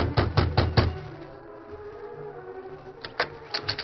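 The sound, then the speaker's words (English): A quick series of four firm knocks on the wooden door of a cabin, a pause with low background hum, then another burst of several sharper raps. “Perry knocked on the door of the cabin.”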